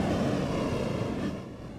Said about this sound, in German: Man hört richtig, wie die Wellen unten so dagegen klatschen. Gell? Bis hierhin ist das schon unterhüllt. Also gute 20 Meter ist das ganze Gestein ausgehöhlt. Bricht dann immer wieder ab auch. Also das verändert sich von Jahr zu Jahr hier.